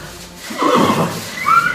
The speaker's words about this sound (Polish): To hasło podpatrzyłem, ale doskonale oddaje to, co robią pracujący w stadninie koni w Dobrzyniewie. Jacek Kosiak, zapraszam na spotkanie z pięknymi końmi